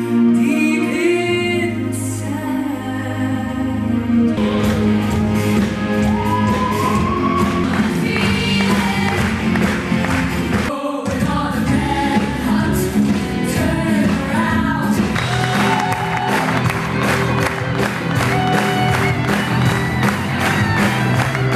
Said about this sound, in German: Absolut berechtigter Applaus. Es waren jetzt knapp 3 Stunden Musical. Es war so gut. Ehrlich, ich bin total baff und ich glaube, den Leuten, denen geht es hier gerade genauso.